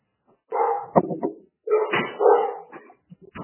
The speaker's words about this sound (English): I'm just going to shut my door because the dog is barking.